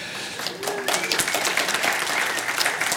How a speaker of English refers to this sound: They're applauding you, dear, I'm sure.